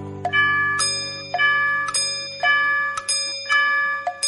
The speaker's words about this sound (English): The clock struck four.